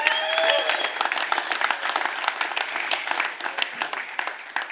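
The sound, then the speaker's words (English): A crowd at a men's camp bursts into steady applause for first-time attendees, dense overlapping claps sustained evenly throughout, with a few brief whistles or whoops rising above the clapping near the start. “Man, give it up for these guys.”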